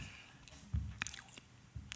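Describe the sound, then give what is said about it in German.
Boots squelch through soft, wet tidal mud with the tide out, in a few uneven, heavy steps, each a sucking squish with faint drips between, fairly quiet and with no voices. “hier ist der Matsch, platsch, platsch. Die Stiefel spuren, der Gang ist schwer, sehr, sehr.”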